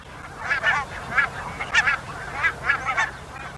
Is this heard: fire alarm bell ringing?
no